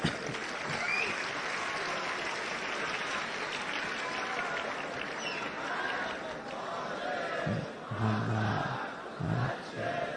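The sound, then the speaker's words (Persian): A large audience applauds steadily, a dense wash of clapping, while many voices rise together in loud collective chanting of salawat that swells near the end. “نه این بحث دست زدن و صلوات فرستادن تبدیل نشه به یک نمیدونم مسابقه و فلان چیز.”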